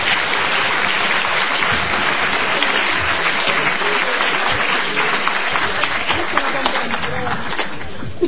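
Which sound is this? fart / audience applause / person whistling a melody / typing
audience applause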